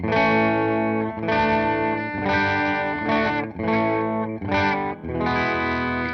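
An electric guitar in a clean tone strums a series of sustained chords, about seven in a steady rhythm, fairly loud with a light touch of reverb. No voices.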